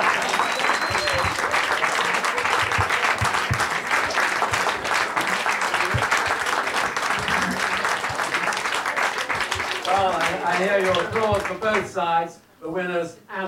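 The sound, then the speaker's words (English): An audience at an event applauds loudly and steadily for both the winning and losing sides for about ten seconds, dense clapping, then it fades as a man starts talking over the last scattered claps. “Hear your applause for both sides, the winners and the losers.”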